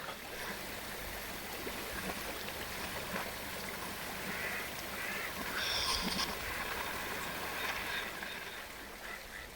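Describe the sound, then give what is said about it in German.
A steady, broad rush of flowing river water fills the whole stretch, with a faint brighter hiss swelling briefly near the middle. No voices are heard. “Seltsamerweise ist es fast nur Naturmaterial, das verwendet wird, nämlich sehr viel zum Beispiel ein bestimmter Fluss.”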